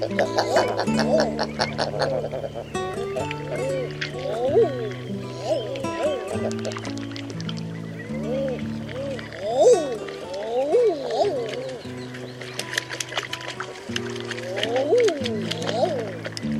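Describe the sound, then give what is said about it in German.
Common eider ducks give repeated rising-and-falling cooing calls, several overlapping at a moderate pitch, over steady low droning tones throughout. “Das war die Eiderente.”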